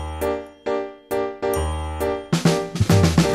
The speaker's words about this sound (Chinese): 钢琴声飘过来，时时弹奏的门铃声，叮叮咚